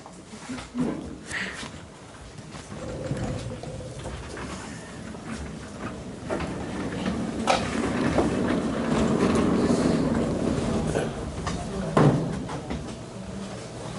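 A chair is dragged across a hard floor nearby, a long rumbling scrape with a few sharp knocks and bumps along the way, while faint murmuring carries in the room.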